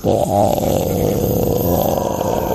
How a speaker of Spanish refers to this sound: A lo lejos se oye el rugido de los monos aulladores. Cuando se escucha el rugido de él, por allá 4 kilómetros, y no, él no grita, sino hace una bolsa acá.